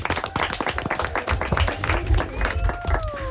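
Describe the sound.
Loud, fast clapping from a group of children, a dense scatter of sharp claps filling the whole moment, with a few high voices squealing and chattering over it.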